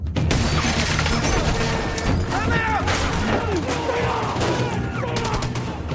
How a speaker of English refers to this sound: Officers trade shots with heavily armed robbers holed up in a bank. The robbers spray the police vehicles with automatic fire.